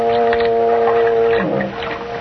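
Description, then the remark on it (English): A ship's foghorn blows one long, loud, steady low blast that sags and fades after a second or so, with faint background noise around it and no voices. “That was just a foghorn.”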